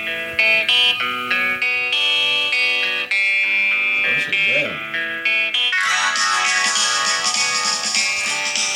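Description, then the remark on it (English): A rock song plays steadily and loudly on Apple Music, started by asking Siri, with distorted electric guitar chords and a singing voice gliding over them, the sound growing fuller and brighter in the last few seconds. “You never heard this song?”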